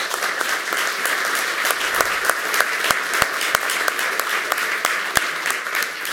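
Steady, loud applause from an audience for the audio technicians at the back, dense clapping sustained throughout with occasional sharper individual claps standing out above the wash.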